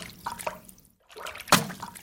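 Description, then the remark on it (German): Wet, splashy slaps of soaked laundry being beaten at a washing place to knock the dirt out, one sharp loud smack standing out after a brief pause, with dripping water between the hits. “Der Waschplatz mit dem Geräusch nasser, klatschender Wäsche wurde in der Neuzeit so gerade für junge Mädchen zum ersten Kontakt mit sexueller Aufklärung.”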